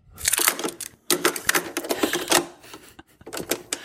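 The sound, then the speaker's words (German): A cassette tape is pushed into a player amid a quick run of sharp plastic clicks and clacks, busy and irregular, with a brief pause before a final few snaps. No voices. “Mach mal die Kassette rein.”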